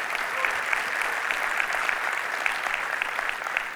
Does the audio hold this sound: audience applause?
yes